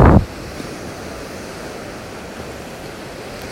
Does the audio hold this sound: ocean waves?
yes